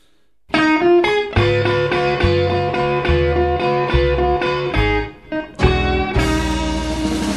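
A blues tune opens on electric guitar over a steady band groove, loud, with sustained bent notes and a pulsing bass line; no singing yet, just the instruments.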